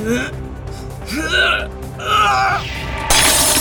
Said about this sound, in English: the thing stops as Kyle's mirror smashes into its back, then his chair